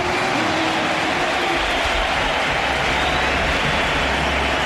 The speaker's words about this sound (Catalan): Per tant, veurem la plantilla del Baskonia. Mira, ja els veig, el túnel de vestidors. Per tant, ara hi haurà l'ovació. Mira'l, és aquesta.